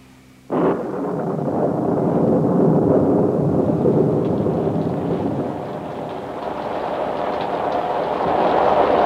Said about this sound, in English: What a terrible downpour.